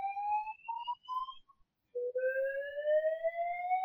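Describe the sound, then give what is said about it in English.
A fire alarm in a clinic sounds with three short electronic beeps, then a long tone that slowly rises in pitch. Fairly loud and steady, with no voices over it. “I believe there's a fire alarm going off.”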